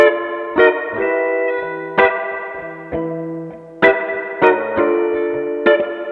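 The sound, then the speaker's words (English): An electric guitar through an amp with spring reverb, with a handful of notes and chords struck at uneven intervals, each ringing out with a wet, lingering tail. No one speaks. “But it's so nice, the spring reverb.”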